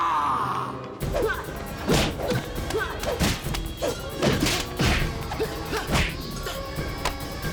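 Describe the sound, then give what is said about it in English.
A flurry of loud punches and heavy body thuds lands in quick succession, mixed with scuffling and a sliding scrape, after a brief quieter opening: a fight scene in which Silas punches a man in the stomach and he slides backwards. “Silas punches him in the stomach and he slides backwards.”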